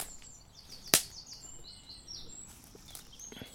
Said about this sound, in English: And coming, this is an area where you hear more crackles because there's so much wood and stuff on the ground.